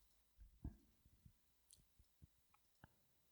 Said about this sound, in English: The screw clicking is audible. As we know, I ruined the show by clicking my screws together as usual.